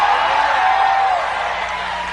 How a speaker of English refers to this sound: Anybody righteous, hold your hand up and scream. Now really scream like you believe you're righteous.